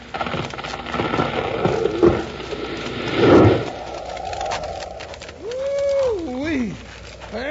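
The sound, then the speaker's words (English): A large tree being felled, holding enough wood to build five ordinary houses, crashes down midway through: a short burst of cracking and a heavy thud against a busy outdoor background, followed by a high, wavering animal-like cry. “Look out now. It's about to drop. If it falls the wrong way, you better be ready to run.”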